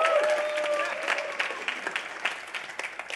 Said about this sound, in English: Let's give Caleb a massive round of applause.